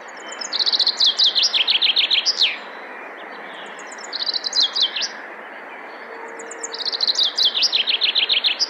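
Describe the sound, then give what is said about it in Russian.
A male common chaffinch sings three times: quick descending runs of bright notes ending in a sharp flourish, loud over a soft steady outdoor hiss, with no voices. “Зяблика трудно увидеть, особенно без бинокля, но легко услышать. Поет он вот так.”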